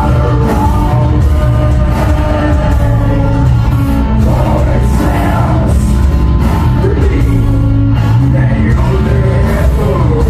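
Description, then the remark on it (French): Harsh screamed vocals of the band's own written lyrics roar over a dense, loud heavy music track, the shouting continuous and distorted throughout with no pauses or spoken words. “Non, c'est du hurlement qu'on a écrit, ouais.”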